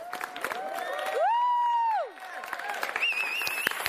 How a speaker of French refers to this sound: D'ailleurs, on va tous applaudir le maître boulanger, là derrière vous. Il a reçu le prix de maître boulanger.